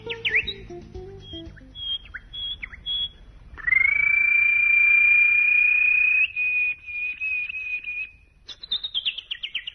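Birds chirp: quick high tweets first, then a long, steady high-pitched trill lasting several seconds, ending with a few bright descending chirps. No voices.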